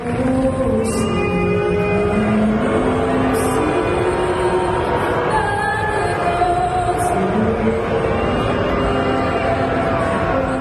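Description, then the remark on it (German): A large crowd boos loudly and continuously during the American national anthem at a Toronto Raptors home basketball game, long low drawn-out jeers sliding in pitch and layered into a dense, steady roar with no pause. “Und als dann da bei einem Heimspiel der Raptors die amerikanische Nationalhymne gesungen wurde, da gab es dann Buhrufe und das hörte sich dann so an.”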